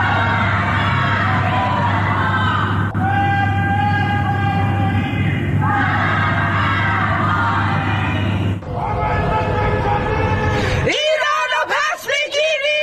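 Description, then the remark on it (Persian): Many people chant anti-government slogans in unison from their homes on a Friday evening in Iranian cities such as Tehran, Mashhad, Shiraz, Malayer and Karaj, rising and falling in repeated rhythmic phrases across several segments, with a steady low hum beneath and a brief burst of louder, scattered shouting at the end. “در آستانه سالگرد جان باختن مهسا امینی، شامگاه جمعه مردم در برخی شهرها از جمله تهران، مشهد، شیراز، ملایر و کرج از خانه‌های خود شعارهای ضد حکومتی سر دادند.”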